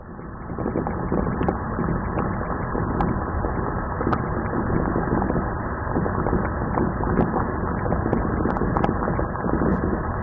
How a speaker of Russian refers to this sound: Что вам напоминает этот звук? Совершенно верно. В кастрюльке варится яйцо.